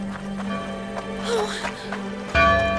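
A bell rings with lingering metallic tones, ending in a louder, brighter clang that hangs in the air, all over a steady low hum.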